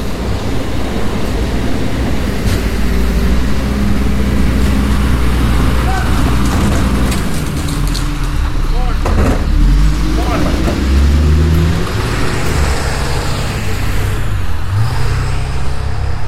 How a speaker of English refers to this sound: A garbage truck there.